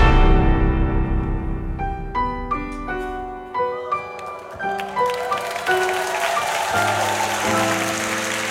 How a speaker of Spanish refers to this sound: El público aplaude, el telón se levanta para que comience a prepararse en el escenario del trasnoche de la radio.